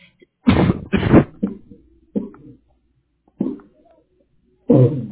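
A run of harsh, loud coughs, two quick bursts close together, then several shorter hacks with pauses between and a final strong cough near the end.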